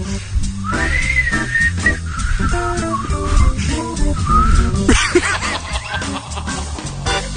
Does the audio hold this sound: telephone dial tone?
no